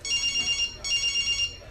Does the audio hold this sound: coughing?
no